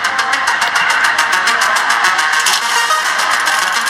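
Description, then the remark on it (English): A race car with Richard Petty behind the wheel cranking and starting at Darlington for the 68th running of the Southern 500, a loud, raspy mechanical roar with a rapid, steady pulsing rhythm that continues throughout without any voices. “He is behind the wheel of that race car.”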